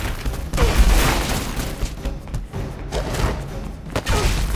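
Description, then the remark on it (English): Heavy crashing impacts as Juggernaut smashes through masonry walls with his helmet, several loud bursts in quick succession with rumbling low thuds and scattering, crumbling debris between them; no voices. “He smashes his way out of the floor, throwing masonry everywhere.”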